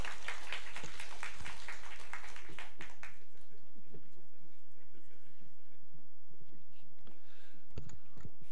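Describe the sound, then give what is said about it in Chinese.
An audience at Yan Fook Church bursts into dense, loud applause to give glory to God as a guest pastor is invited to speak, for about three seconds; then the clapping quickly dies away, leaving scattered claps and low murmuring from the crowd. “我们用很大的掌声将荣耀归给上帝”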